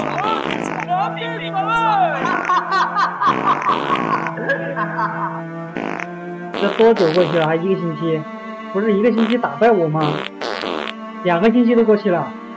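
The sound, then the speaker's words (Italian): A string vibrated by rubbing with a horsehair bow plays a series of buzzy, sustained notes, some sliding in pitch, with pauses between phrases. The tone is loud and rich, with no voices. “Il mezzo elastico può essere costituito da una corda di metro fatta vibrare mediante lo sfregamento di un arco di crine.”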